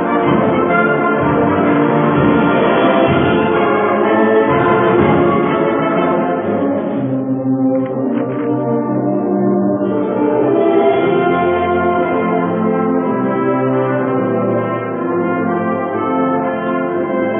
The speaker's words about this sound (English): Good balance between bells and upper woodwinds. And excellent time there as well.